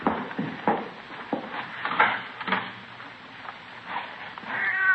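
A cat meows repeatedly in short, scattered calls, somewhat muffled, with a few faint knocks and rustles in between and no talking.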